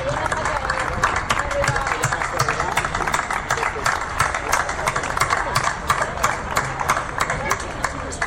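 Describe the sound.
Sustained loud applause from a crowd at a Sitges cultural event for a colleague who is retiring, dense rapid clapping filling the whole stretch at a steady level, with a faint murmur of voices underneath.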